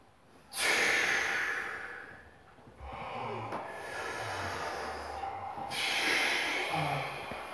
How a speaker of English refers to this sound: This was the last round of the breathing.